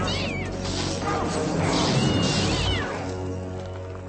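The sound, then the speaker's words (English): A cat meows a few times in drawn-out, rising and falling cries, loud over a dense, rumbling background noise that swells in the middle and then eases off. “You're a stupid cat, aren't you?”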